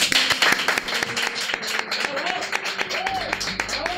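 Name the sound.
applause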